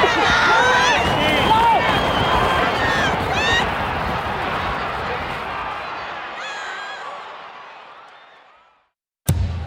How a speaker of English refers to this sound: Horse racing fans, they get really crazy when they're cheering. Those people that are yelling, come on, come on! They're like screaming at the top of their lungs and yelling. Go, go, go!